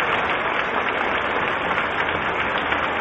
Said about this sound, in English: So as the applause continues, it is our surmise that the presidential party is making its appearance. I am surprised we do not hear the band.